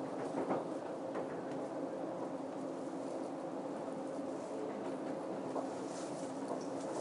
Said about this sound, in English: Stopping in a second, slowing down. I love the sounds this train makes.